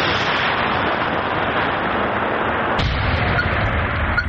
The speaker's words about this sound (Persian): دوربین در مسافه تقریباً 500 متر از بمبی که باید نابود گردد گذاشته می شود. نواربردار کوشش می کند که دوربین را درست کند تا در وقت ترکش نافتد. بمب های هوایی و دیگر مهمات نوترکیده جنگی را به نوبت نابود می کنند.